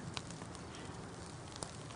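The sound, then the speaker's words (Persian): A charcoal fire crackles, a steady hissing bed broken by a few sharp pops and snaps. No one speaks. “به به، من چه آتیشی درست کردم.”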